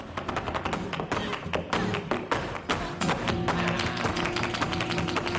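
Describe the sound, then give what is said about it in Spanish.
Rapid flamenco heel tapping, a dense run of sharp percussive strikes in quick, irregular rhythm over a low sustained musical backdrop, fairly loud throughout with no voices. “Ya va quedando menos para que podamos escuchar este taconeo aquí en la capital navarra.”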